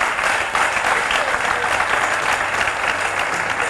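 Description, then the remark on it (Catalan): Steady, dense applause from an audience fills the whole stretch as they applaud a woman for a correct crossword answer, many hands clapping at once in a continuous loud patter with no one speaking. “L'ha clavat, aplaudiu-la.”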